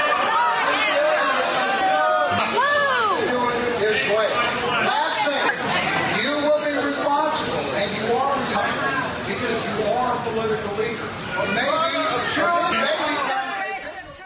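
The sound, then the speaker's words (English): A crowd boos loudly and continuously, many overlapping voices rising and falling in pitch in a dense, sustained wave of disapproval that fades slightly at the end. “They are booing Jesus.”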